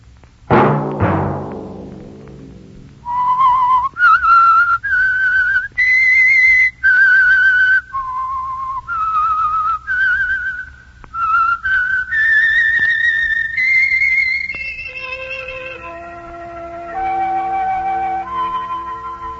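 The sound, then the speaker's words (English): A lone whistler carries a slow, sustained melody, the theme of the Signal Oil radio program The Whistler, each note held and gliding between pitches, clear and loud with no talking over it, after a brief sharp opening hit. “Let that whistle be your signal each Sunday for the Signal Oil program, The Whistler.”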